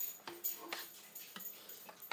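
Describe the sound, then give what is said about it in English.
A dog scratches itself in quick, irregular rasping bursts, with a faint whimpering tone slipping in between. Quiet, with no one talking. “I know you ain't got fleas, dog, because I just fleed you last night.”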